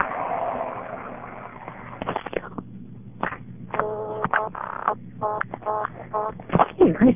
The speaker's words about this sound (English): so I'll just dial the payphone number so you can hear the dial tone. Well, I guess that's interesting. The payphone here rings along with every turn of the dial. If you dial 1, just get a fast busy.